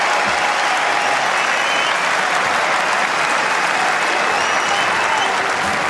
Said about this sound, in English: Mesdames et messieurs, merci encore une fois d'applaudir Sasha Zverev, qualifié pour les quarts de finale de Roland Garros.